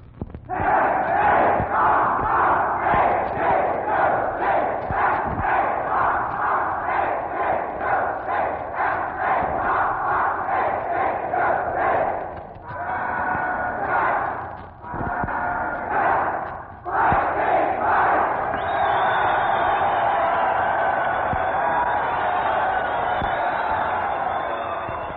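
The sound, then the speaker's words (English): A large group of cadets of the Admiral Farragut Academy, a prep school with naval training at Pine Beach, New Jersey, cheers and yells loudly and continuously for about twenty-five seconds, with brief dips and rhythmic bursts of shouting, and a rising whistle-like tone near the end. “Folks, those lusted cheers and yells you just heard are from the cadets of America's first prep school with naval training, the Admiral Farragut Academy.”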